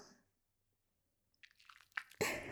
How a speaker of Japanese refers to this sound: こうしてね、石鹸を泡立てて